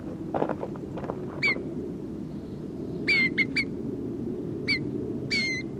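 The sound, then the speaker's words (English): A bird, number 302, gives a series of short, sharp squawks with a harsh harmonic edge while being handled, about six calls in irregular bursts over a steady low rumble and some handling noises. “It's bird 302.”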